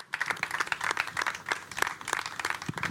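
A crowd applauds steadily for a group of women just introduced, and for their designers and stylists, many hands clapping in a dense, crackling wash with sharper individual claps poking through, sustained at a moderate level with no voices.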